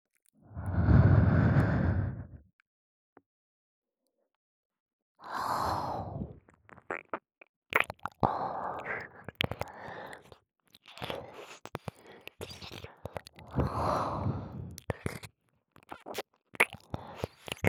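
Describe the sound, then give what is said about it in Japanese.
Warm breaths exhaled right into the microphone, three long close-up puffs spaced a few seconds apart, with soft wet mouth clicks and crackles scattered between them, no talking. “ほら、私の温かい吐息。脳内に流し込んであげます。”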